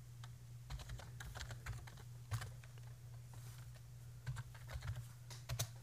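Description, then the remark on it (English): Rapid, irregular clicking of keys on a computer keyboard, typed with the face right next to the keyboard to capture ASMR typing sounds, with bursts of taps and brief pauses over a steady low hum. No one speaks. “Sorry, it's really hard trying to type with my face next to the keyboard to get good typing ASMR sounds.”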